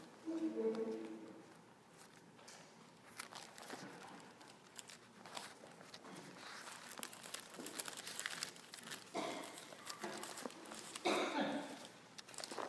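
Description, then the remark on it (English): Many Bible pages turning at once as people look up a passage in the Old Testament, a steady overlapping rustle and crinkle of thin paper, with occasional louder flips and a faint voice near the start. “I still hear pages turning, I'll give you a moment.”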